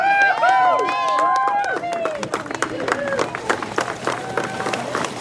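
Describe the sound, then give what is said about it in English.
A big crowd on the banks of the Ogallee River claps and cheers as Melby the manatee splashes back into the wild, with whoops and shouting voices loudest at first, then steady scattered applause continuing to the end. “Melby the manatee splashed back into the wild to clapping and cheering from a big crowd on the banks of the Ogallee River.”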